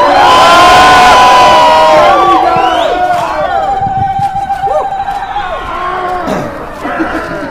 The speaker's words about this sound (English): So let's have a big cheer for Erinys, and hopefully we can bring down their organisation very soon.